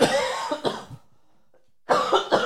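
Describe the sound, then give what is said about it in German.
A loud burst of harsh coughs, a quick cluster of about three, then a second of silence before another rough fit of coughing starts up. “Ja, muss ich schon wieder anfangen zu husten.”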